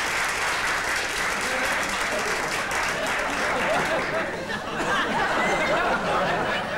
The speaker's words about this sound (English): For our school lecture this term, we are very fortunate to have secured the services of one of our most famous and distinguished old boys. The Polar Explorer, Rear Admiral Sir Vincent Smythe Obelson. Applause, applause!